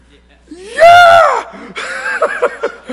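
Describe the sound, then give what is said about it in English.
A man lets out one loud, sustained yell that swells and falls over about a second, followed by a string of shorter, choppier vocal bursts. “That was a very modest yell.”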